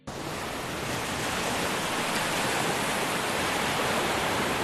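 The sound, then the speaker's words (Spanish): A steady, dense hiss of rushing water, heavy rain or the rough Cantabrian Sea churning, in Cantabria, Spain, holding an even loudness throughout with no voices. “Hablábamos de su lluvia y del mar bravo, seguro el cantábrico. Este sonido es muy, pero que muy relajante.”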